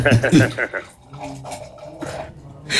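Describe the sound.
Wine trickles into a glass with a soft, steady gurgle and faint glassy clinks, following a moment of voices talking, then voices return at the end.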